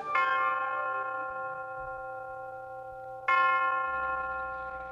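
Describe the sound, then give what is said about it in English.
Two resonant chime strikes from the University of Detroit tower ring out, the first at the start and the second about three seconds later, each with a rich harmonic tone that sustains and slowly fades. No one speaks. “The University of Detroit Tower chimes ring in another session of Ask the Professor”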